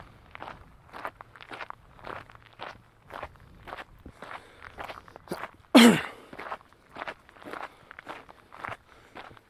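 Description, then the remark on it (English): Steady footsteps crunch across gravel at an even walking pace, around a dozen and a half gritty steps, with one sharp, louder impact partway through. No talking. “I'm walking on the gravel only because it sounds a bit more interesting than walking on the grass.”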